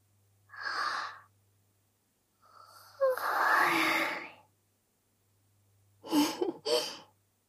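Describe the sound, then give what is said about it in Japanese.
A long, breathy yawn stretches out between shorter airy exhales and a pair of quick sighing breaths, all fairly soft, with no talking. “今度はあくびが映っちゃったみたい。”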